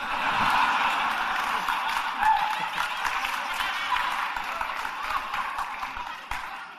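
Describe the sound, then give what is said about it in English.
A crowd cheers and claps steadily for several seconds, a dense wash of applause and excited voices that stays loud throughout before easing slightly at the end. “I love all the cheering for that.”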